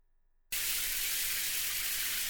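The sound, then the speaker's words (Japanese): After half a second of silence, a hot-water shower in a bathroom bursts on and keeps running: a loud, steady hiss of spraying water that stays even to the end, with no voices. “シャワーのお湯は熱くない？”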